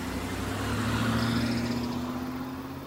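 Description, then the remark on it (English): A car engine hums steadily as a man quickly drives off in his car, a low droning rumble with broad road noise that eases off slightly toward the end. No one speaks. “Instead, he quickly gets in his car and speeds away.”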